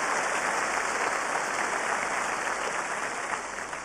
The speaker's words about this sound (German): Ja, kann man klatschen, ne? Aber warum nicht?